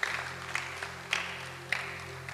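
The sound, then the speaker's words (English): A church audience claps hands for Jesus, a steady dense wash of many hands clapping with a few sharper accents, over a low electrical hum and no voices. “Can you clap your hands for Jesus in civil service?”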